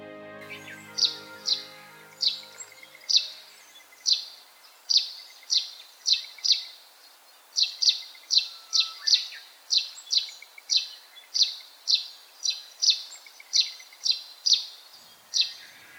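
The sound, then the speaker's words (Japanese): Russet sparrow calls in a beech forest on the Daigenji Plateau, 700 m elevation, Tokamachi City, Japan, with snow still on the ground and young leaves just emerging: a steady series of short, bright chirps repeating quickly, often in quick pairs or trios, clear against a quiet background. “聞き慣れたスズメのような鳴き声が聞こえてきました。乳内スズメです。”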